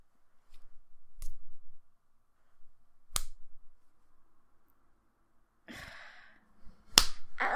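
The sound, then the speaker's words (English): Three sharp slaps on a person's skin ring out, widely spaced, with a brief rustling burst just before the last and loudest smack. “Okay, you want me to slap you harder? All right. Fuck, I'm gonna do it again.”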